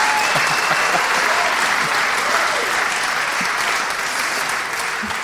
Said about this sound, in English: Well, I think that's the first time in Bugle history that someone has been applauded for eating a shawarma kebab.